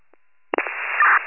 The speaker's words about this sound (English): it's all static.